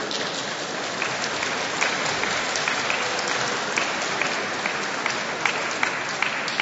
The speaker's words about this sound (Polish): Cieszymy się bardzo, że jest orkiestra Dęta Ochotniczej Straży Pożarnej przy Miejsko-Gminnym Ośrodku Kultury w Koronowie. Brawa dla nich.